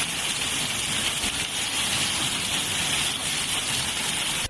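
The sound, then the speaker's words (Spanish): Floodwater rushes down a street in Almansa, Spain, covering the sidewalk, in a steady, dense roar of churning water that holds an even loudness throughout, with no voices over it. “Tenemos río en Almansa, oye cómo baja, ya no se ve ahí la acera, y tú lo que está bajando.”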